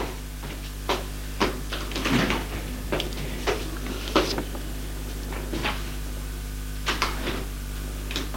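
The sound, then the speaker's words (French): A series of sharp knocks on the concierge's door, irregularly spaced and moderately loud, over a steady low electrical hum, with no voices. “Porte du concierge. Pas de réponse.”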